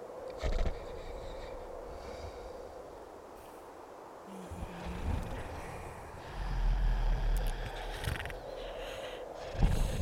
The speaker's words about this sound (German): Ja, Island hat auch Bagen. Die Bagen sind Vulkane, die sloppen dort. Fein liesen sie'n. Kannst du die Vulkane snorken hören?